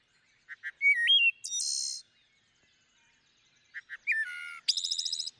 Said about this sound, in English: Let's hear that. Let's hear that wood thrush.